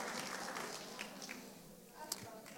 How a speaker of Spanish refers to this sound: ¿Cuántos tuvieron esa imagen? Ahí están los científicos. Un aplauso para los científicos.